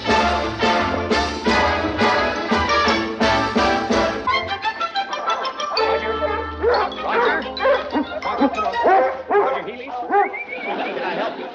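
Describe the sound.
A dog barks in a rapid, loud series of yaps, then whimpers and whines in short high cries, with voices and a low droning tone running underneath.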